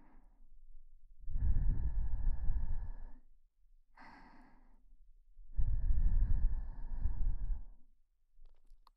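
Two long, soft breaths blown into the listener's ear, each a broad airy whoosh lasting about two seconds, with a quiet pause between them and no talking.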